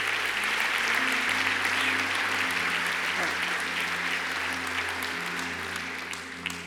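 An audience claps their hands in sustained, dense applause, loud and steady throughout, with a low organ-like hum held beneath and tapering slightly at the end.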